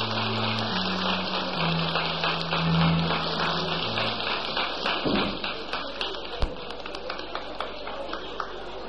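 A live audience at a crowded event applauds in a dense, steady patter of many hands clapping, with a low droning tone underneath at first; later the clapping thins slightly, with a few sharper individual claps.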